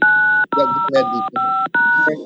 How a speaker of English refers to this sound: Someone's dialing their phone. If you could mute your phone, please.